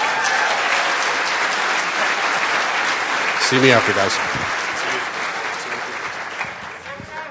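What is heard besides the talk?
audience applause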